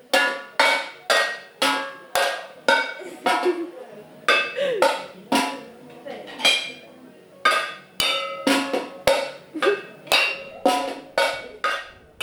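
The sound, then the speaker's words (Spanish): Someone drums on a kit of cooking pots and a pot lid, also playing a band cymbal, a steady run of sharp, ringing metallic strikes with a bouncy rhythm, fairly loud, with no voices. “Vamos a ver otra batería de ollas.”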